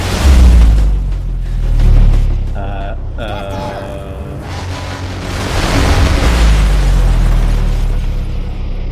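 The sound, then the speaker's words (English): A heavy, rumbling explosion in a movie that blows up a group of people, with deep low-end booms that swell, fade and return, mixed with brief tonal cries and a roaring, debris-filled wash of noise. “These guys that we just met are about to blow up.”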